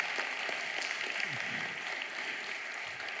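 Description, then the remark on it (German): Steady applause from an audience for the Bible, the Word of God, during a sermon, a dense wash of many hands clapping at once that holds at an even level throughout without fading, with no voices standing out. “Ein Applaus für die Bibel, für das Wort Gottes, nicht für mich.”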